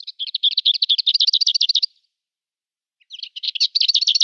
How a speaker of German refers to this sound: Also zwei ähnliche Arten, aber die Klappergrasmücke hat diesen typischen Gesang, der sie sehr gut unterscheidet von der Dorngrasmücke. So, und den hören wir jetzt nochmal, damit sich das in eure Hirne brennt.